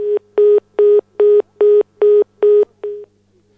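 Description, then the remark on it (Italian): A string of about eight short telephone tones beeps in a steady, quick rhythm, loud, with the final tone shorter and fading away. No voices are heard. “Beh, ma sai che goduria con queste telefonate?”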